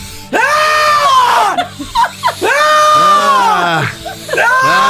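A person lets out long, forceful screams one after another during a breathing exercise, screaming to get the air out, each sweeping up and falling away as breath is pushed out, with brief gasps between them, loud.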